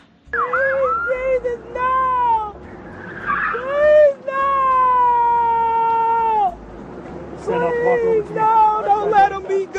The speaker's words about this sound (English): Oh, they did manage to call an ambulance, which you can sort of tell.